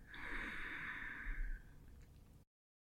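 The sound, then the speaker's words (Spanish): A single long, breathy exhale after holding the breath in a guided breathing exercise, fairly loud, with a hissing airy quality that fades out after about a second and a half, followed by a soft tail and silence. “Retén el aire. Y cuando tu cuerpo te lo pida, exhala.”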